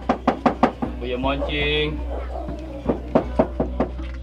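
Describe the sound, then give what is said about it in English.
Sharp knocks on a door come in two quick bursts, about four raps and then about five, with muffled talk between them over a steady low hum. “The idea is that they would knock on doors, plead with people to enter rehabilitation.”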